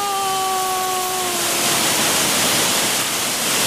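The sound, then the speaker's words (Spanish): Heavy rain pours down in a dense, steady hiss that never lets up, while a faint humming tone fades out during the first second and a half. Nobody speaks. “¿Qué manera de llover se pasa?”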